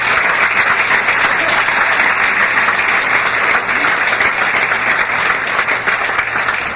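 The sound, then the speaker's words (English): Sustained audience applause at a fellowship meeting, the audience applauding themselves and their fellowship: a dense, steady roar of many hands clapping at an even loudness throughout, with no voices rising above it. “You applaud yourselves and our fellowship.”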